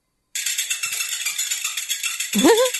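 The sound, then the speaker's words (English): Many small water-filled balls bounce repeatedly on a large frying pan in a dense, continuous metallic rattle of overlapping hits, steady and loud, ending with a brief rising ringing tone. “the ball hits the frying pan again on its way down, and the whole thing happens over and over”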